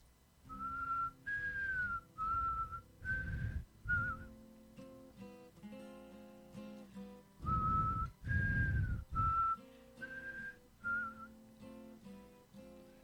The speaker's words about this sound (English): It's a quiet song. Start with the whistle. See if I have enough spit.